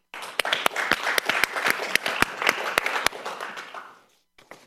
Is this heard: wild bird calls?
no